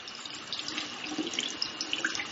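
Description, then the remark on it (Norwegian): Steady rush of tap water at about 37 degrees pouring into a sink during hand washing with soap from a liquid dispenser, a broad hiss with small splashing flickers on top, continuous and fairly quiet, with no voices. “Så tar jeg sæpe fra den flytende dispenseren. Så vasker jeg.”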